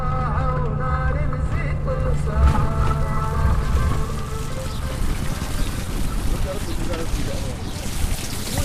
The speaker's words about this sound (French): À des kilomètres de là, sur les rives du Nil, camions et tractopelles en provenance du marché de l'or sont nettoyés au jet d'eau. De l'eau souillée s'échappe directement dans le fleuve.